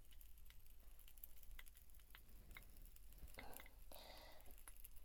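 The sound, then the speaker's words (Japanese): Soft crackling and rubbing right against a microphone during an ASMR ear massage, with irregular tiny snaps throughout and two denser, rustly bursts toward the end; quiet overall, with no one talking. “パチパチといった音が不思議ですよね。”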